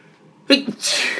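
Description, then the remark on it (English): A single loud sneeze: a sharp voiced burst followed by a breathy, hissing rush of air that trails off. Nobody speaks. “Bless you.”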